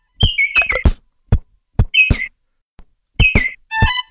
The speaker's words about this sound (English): All right, what's next in the Madagascar rainforest? The next one is the lesser Vassa parrot.